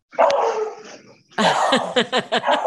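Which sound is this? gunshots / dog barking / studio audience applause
dog barking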